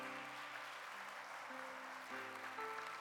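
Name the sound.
audience applauding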